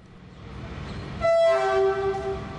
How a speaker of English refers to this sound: Friday afternoon, Lahore train station, one of Pakistan's busiest. Trains pull out frequently, heading for various destinations around the country, Quetta, Karachi, Peshawar.